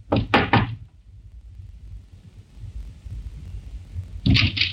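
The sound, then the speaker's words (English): Inspector Russell knocks three quick, firm knocks on the wooden door of a small flat in a good residential district, followed by a long pause over a low background rumble before another sharp thud at the door. “But instead, he knocked.”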